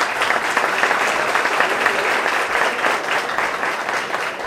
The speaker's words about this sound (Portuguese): nosso vice-prefeito, para quem eu peço uma salva de palmas.